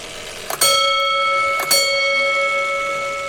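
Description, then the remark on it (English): A vintage street fire alarm box (firebox) at the Boston Fire Museum goes off after its handle is pulled, striking a bell twice about a second apart. Each loud clang leaves a bright, steady tone that rings on and slowly fades, with no voices. “at the Boston Fire Museum shows off a vintage firebox. And you can hear what happens.”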